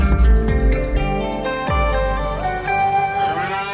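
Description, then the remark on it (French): Cows moo in long, drawn-out calls, loud, with several overlapping lowing voices and a dense harmonic backdrop; no one speaks. “Bon, on ne sait pas si elles sont vraiment du Qatar, ces vaches qu'on entend, mais en tout cas, l'or blanc du Qatar, c'est bien le lait de vache.”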